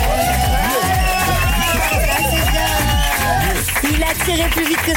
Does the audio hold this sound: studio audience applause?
yes